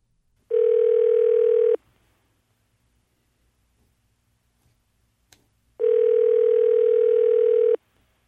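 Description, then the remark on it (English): A telephone line rings out twice, each burst a steady electronic buzzing tone lasting about a second, separated by a long silent pause, with no one speaking; a call placed from CBC Radio in Toronto. “We're going to call her on the phone right now.”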